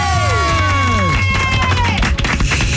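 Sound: applause and cheering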